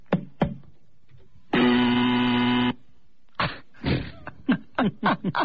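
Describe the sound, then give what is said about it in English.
A loud, harsh buzzer sound effect, played from a cart machine, sounds once for just over a second, steady. Short bursts of talk come before and after it. “How do you like the levels on these buzzers?”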